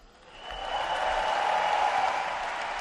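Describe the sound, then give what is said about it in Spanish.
A large crowd breaks into sustained applause and cheering at the Martín Carpena arena during the tribute ceremony for Rafa Nadal, swelling over the first second and then holding as a dense, loud ovation that fills the arena. “Ovación de todo el Martín Carpena.”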